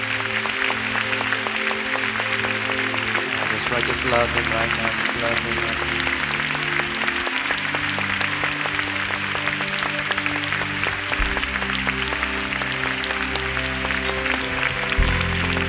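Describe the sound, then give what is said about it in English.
An audience claps for God steadily and continuously for about fifteen seconds over sustained keyboard-and-bass music, while a voice speaks briefly above the applause. “give Father God a big clap today.”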